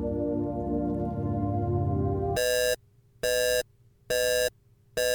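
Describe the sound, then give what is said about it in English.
A low, humming electronic drone gives way to a spacecraft proximity alarm aboard the Hephaestus, warning of a small spacecraft approaching 300 kilometers out: four loud, bright, harmonically rich beeps in a steady on-off rhythm, each about half a second long. “What's that alarm for? Commander Minkowski, I'm picking up a proximity alert.”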